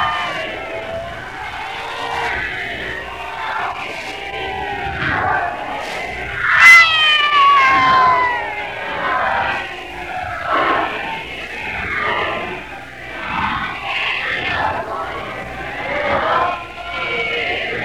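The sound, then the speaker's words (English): A large crowd gathered round a car yells and cheers continuously for a speech from a man at a window, many voices overlapping in rising, excited shouts, with a few louder calls standing out; the noise stays dense throughout. “Now yelling for a speech from him, and as he looks down with a smile that is pleased, out he comes again, looking out of the window.”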